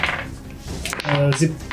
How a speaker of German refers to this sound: Wir würfeln jetzt Initiative.